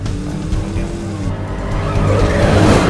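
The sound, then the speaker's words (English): A car engine roars as the tires screech and skid, the squeal wavering while the car fishtails during a driving lesson scene in the film Speed Racer, with the rumble growing louder toward the end. “Feel that shimmy? Your hind legs trying to outrun your front.”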